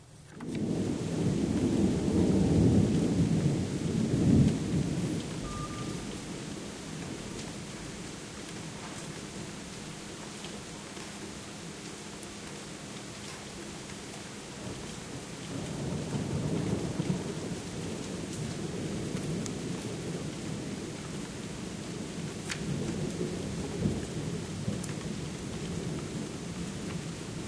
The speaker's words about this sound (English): This is a thunderstorm. Please meditate while we listen. It'll pick up here.